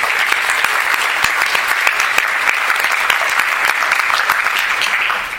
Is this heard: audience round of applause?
yes